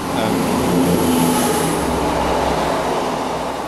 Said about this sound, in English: I am currently at the train station.